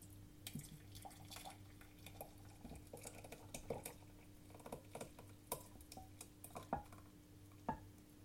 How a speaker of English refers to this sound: It's pretty much done. And now, take this off the heat and I'm going to pour it into a jug.